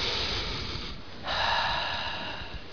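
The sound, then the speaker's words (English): A deep, audible breath drawn in, a rushing, airy inhale that swells after a short lull and holds for over a second, with no talking. “We take for granted the fact that God gives us a breath every time we inhale.”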